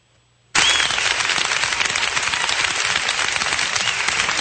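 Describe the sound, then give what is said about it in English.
A crowd at the school board meeting of September 12th bursts into loud cheering and applause after a brief silence as a man with a handlebar mustache walks in, a dense, steady roar of clapping with a quick whoop near the start, holding strong to the end. “Well, so why are they cheering?”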